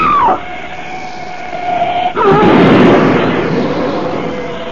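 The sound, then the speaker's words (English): A steady, wavering tone gives way to a sudden loud smash as a black shape speeding down the road wrecks Frederick Butler's car, a rough crunching roar that lingers for a couple of seconds and slowly fades. “That ugly black shape, it smashed Butler's car to bits as though it were an eggshell.”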